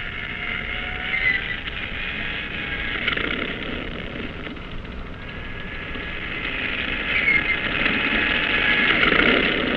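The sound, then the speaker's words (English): A propeller plane engine, started on a cruiser's catapult, drones in a steady, continuous roar with a high whine riding on top, swelling a little louder toward the end. No voices are heard. “The propellers are whirling disks of light as the pilots climb aboard, settle down, and fasten their safety belts.”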